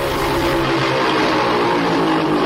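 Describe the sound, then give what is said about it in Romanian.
A small moped engine, with a priest riding the moped, hums and buzzes steadily and fairly loudly, a continuous droning whine with no breaks and no voices. “Doamne ferește, pentru viitorul nostru sau pentru popa de pe motoretă?”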